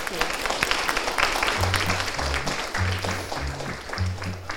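A crowd applauds steadily, a dense crackle of clapping throughout, and low, repeating musical notes come in partway through beneath the clapping.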